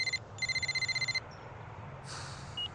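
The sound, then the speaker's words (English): A phone rings with an incoming call, a rapid trilling electronic tone in two bursts, the second longer, over a low background hum before the ringing stops; on the steps in front of McDonald Hall. “He looks at his phone. He sighs when he sees the caller.”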